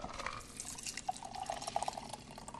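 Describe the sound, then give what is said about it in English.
A cocktail, shaken with ice, is strained from a shaker into a glass: a steady, fairly quiet trickling pour with small bubbly plinks and splashes running throughout, and no one speaking. “So I'm going to strain this into the glass.”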